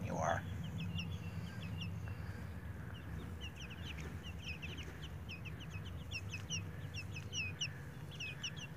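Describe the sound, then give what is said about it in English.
Chickens cluck outdoors in a coop in the sun, a steady scatter of short, repeated calls from several birds throughout, set over a constant low rumble of background noise. “They're all sitting outside in one of the coops and having a beautiful time out there in the sun.”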